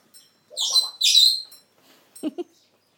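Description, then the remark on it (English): A pet bird named Charlie makes a bubbly, gurgling noise: two bright, trilling bursts followed by a couple of short, lower warbling pops, fairly loud with brief gaps and no talking. “Oh, there's Charlie making a what bubbly noise.”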